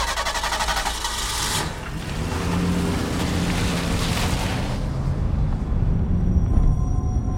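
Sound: car speeding away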